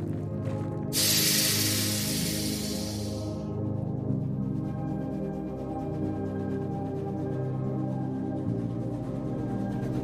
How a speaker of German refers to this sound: Frisch gestärkt wanderst du den Hang hinab zum Zug zurück. Die alte Dampflok scheint ebenfalls abfahrbereit zu sein.